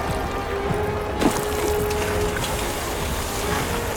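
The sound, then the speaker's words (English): Water from buckets pours and splashes onto a fire in a town to douse the flames, a steady, rushing wash with one sharper splash early on, continuous throughout. “You others, let's find some water to douse the flames.”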